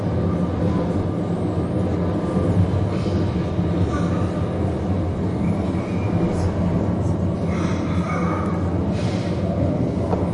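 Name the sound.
commuter train riding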